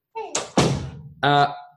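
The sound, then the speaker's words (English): A door swings shut with a short, solid thunk, followed a moment later by a brief tonal squeak or voice-like sound. “Close the door.”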